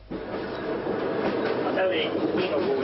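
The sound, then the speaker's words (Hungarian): A train rumbles steadily at an unhurried pace along poor track between Újszeged and Békéscsaba, where it may only run at 50, a continuous rolling noise with faint metallic squeals and rattles throughout. “Míg a mozdonyvezető is panaszkodik, mert rossz a sín, itt csak 50-nel mehet a vonat Újszeged és Békéscsaba között, alig utaznak vele.”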